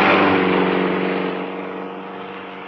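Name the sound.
car driving past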